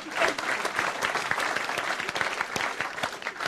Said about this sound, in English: Yes, give her a clap. Go on.